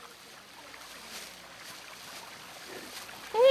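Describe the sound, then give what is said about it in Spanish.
Soft, steady trickle of a small mountain stream fed by a small spring, running without pause, fairly quiet, with a brief louder tonal sound breaking in right at the end. “Todavía queda una pequeña naciente de agua.”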